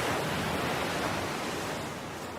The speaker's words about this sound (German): Überall um dich herum sind die Geräusche des Meeres und der Möwen. Friedvoll und rhythmisch.